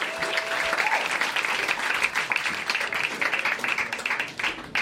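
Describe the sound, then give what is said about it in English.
Audience applause as comedian Ted Alexandro walks to the stage: a dense, steady wash of many hands clapping at even loudness for several seconds, with no speech over it. “Thanks, guys, for almost clapping until I made it to the stage.”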